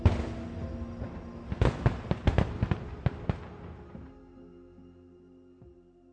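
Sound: fireworks exploding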